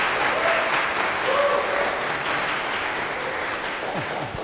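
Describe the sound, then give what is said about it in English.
An audience applauds steadily for several seconds for the speakers of a conference talk titled Conference Video Streaming with the Help of NixOS, a dense, even wash of clapping at a constant loud level with no speech over it. “So a round of applause for our speakers, please, and have a good time with this talk.”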